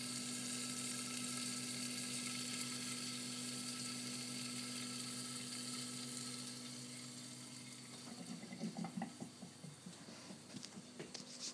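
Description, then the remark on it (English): Food sizzles in a pan with a steady, fairly quiet hiss over a constant low hum, turning into brighter crackling and popping bursts toward the end. No one speaks. “So you can hear pan here.”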